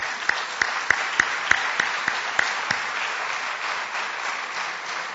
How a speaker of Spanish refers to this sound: Así que otro aplauso al Señor, hermano.